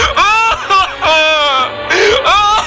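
A dancer from the TV show Danse avec les Stars sobs and whimpers loudly, with wavering, high-pitched wails broken into several gasping bursts across a few seconds, no words spoken.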